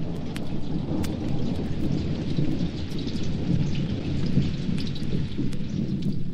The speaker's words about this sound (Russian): Что-то зашумело ближе, ближе, и первые тяжелые большие капли дождя упали на землю. Через несколько мгновений все превратилось в большую серую массу. Целые реки полились сверху. Была настоящая южная гроза.